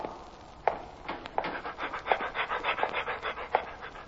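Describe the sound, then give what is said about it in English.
A dog, Lassie playing a prison dog named Cellmate, nicknamed Mate, pants rapidly and steadily, a quick breathy rhythm that carries on throughout, punctuated by a few sharper clicks at regular intervals, with no one speaking. “Well, today, Lassie plays the part of a prison dog named Cellmate, and nicknamed Mate.”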